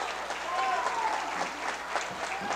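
Sustained crowd applause at a girls' basketball game as Thayer's players leave the court for substitutes with 47 seconds left, a steady dense wash of clapping with a few thin whistles and scattered cheers mixed in, fairly loud throughout.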